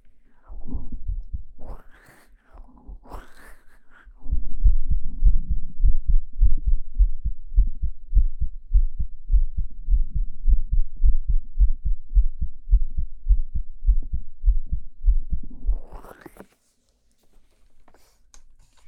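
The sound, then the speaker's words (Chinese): A patient's rapid heartbeat, listened to by a doctor in an outpatient clinic, thumps steadily and loudly, low and muffled as if heard through a stethoscope, with quick regular pulses running for over ten seconds after some brief rustling handling noises. “心跳的挺快啊，是不是有点紧张？”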